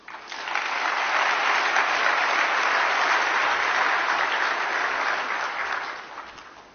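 A crowd claps steadily for several seconds as a speaker takes the stage to give a talk, a dense, even wash of applause that swells in quickly, holds at a constant level, then tapers off at the end.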